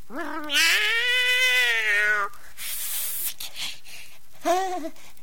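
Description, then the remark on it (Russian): A cat gives one long, drawn-out meow, then after a short pause with some breathy noise, a second, much briefer meow. Both are fairly loud, with no talking. “Кошка, это ты? Давай с тобой дружить, а?”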